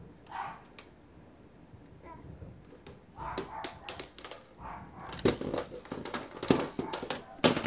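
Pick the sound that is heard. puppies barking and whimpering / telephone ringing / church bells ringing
puppies barking and whimpering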